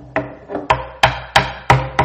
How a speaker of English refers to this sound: Not too long after that, when Moody lived at the YMCA, which he was very influential in promoting, one morning, Moody said, I heard a rap at the door.